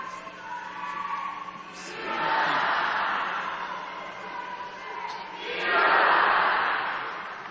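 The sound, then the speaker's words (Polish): A large audience of pilgrims in the Basilica of Our Lady of Guadalupe breaks into applause for a crown given by the Pope, the dense clapping swelling twice in loud waves with a murmur of crowd noise beneath, and no clear speech over it. “Ta korona dar Ojca Świętego zostaje ukazana wiernym zgromadzonym w Bazylice Matki Bożej w Guadalupe i pielgrzymi wierni ten dar Ojca Świętego przyjmują z ogromną radością, także wdzięcznością wyrażoną oklaskami.”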